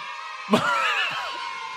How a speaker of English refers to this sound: Can I hear those children scream one more time? Just kidding.